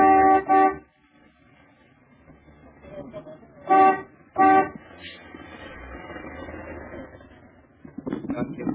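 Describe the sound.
A car horn honks loudly three times: one longer blast at the start, then two short toots close together a few seconds later, with muffled voices and street noise in between.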